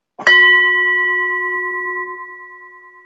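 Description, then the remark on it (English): A single gong strike rings out clearly and alone, its bright metallic tone hanging in the air and slowly fading over a few seconds. “So for my very expensive side effect, we're going to use my gong.”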